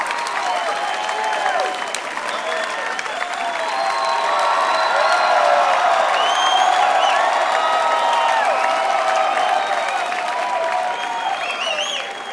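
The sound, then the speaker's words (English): A crowd at a live music gig applauds the crew steadily for about twelve seconds, dense clapping swelling in the middle with scattered whoops and cheers rising above it, no one speaking. “Before we go, though, one more time, a big round of applause for all our crew.”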